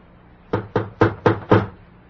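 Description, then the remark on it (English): Five firm knocks on a door in a quick, even rhythm, each a sharp thud with a short ring-out, heard alone against a faint background hush. “Please open the door.”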